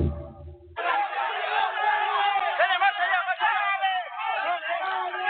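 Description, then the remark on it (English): A chaotic crowd of voices screams and yells over one another in a loud, continuous tangle of high, strained shouts, starting abruptly after a brief low rumble and never letting up, as rescuers drag people out of collapsed buildings, in a news clip from RT. “Either that or it's just a bunch of clips of people screaming and yelling, trying to pull people whose legs and bodies are sticking out from buildings.”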